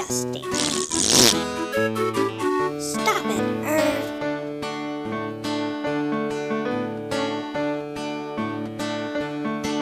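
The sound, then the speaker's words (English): A loud, sputtering fart sound bursts out in the first second or so, then gives way to a bouncy, steady musical accompaniment with plucked and sustained notes. “Got on my feet, poured some shredded wheat, and I let out a great big fart.”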